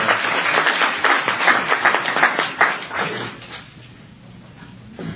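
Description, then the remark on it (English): An audience breaks into a round of applause for the people who organized the program, a dense wash of many hands clapping that holds steady for about three seconds before thinning out and fading away. “I think we should give them a tremendous round of applause.”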